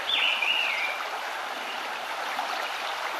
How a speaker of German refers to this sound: Lausche den Klang des Wassers. Und höre dem Zwitschern der Vögel zu.